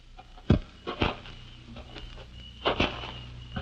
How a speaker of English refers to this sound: And suddenly you veer off and wait in the darkness. Then you hear the footsteps.